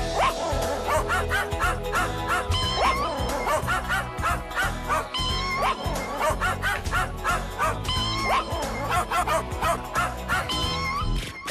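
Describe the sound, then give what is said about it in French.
Loud dog barks and yips repeat in quick succession, forming a steady, almost melodic pattern that runs for the whole stretch, with a few whimpering tones mixed in. “Et on a un chien et un chat ici,”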